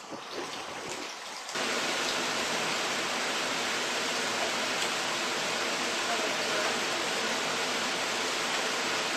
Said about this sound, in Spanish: Le damos una vuelta para que se vaya tostando y se vaya friendo por todos los lados. Vamos dando vuelta a las patatas.